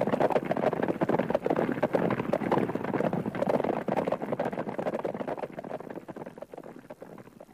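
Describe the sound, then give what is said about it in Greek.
Galloping horse hooves pound in a rapid, steady rhythm, fairly loud, easing off slightly toward the end with no voices. “Κάλπαζε ο γαίο μου άλογο.”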